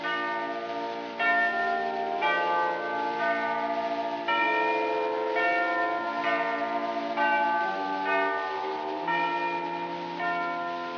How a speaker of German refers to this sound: Welch tiefes Summen, welch ein heller Ton zieht mit Gewalt das Glas von meinem Munde. Verkündiget ihr dumpfen Glocken schon des Osterfestes erste Feierstunde.